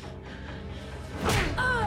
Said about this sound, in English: Nikki thumps the Jessica imposter, sending her flying across the room where she falls to the floor unconscious and morphs back into Candace.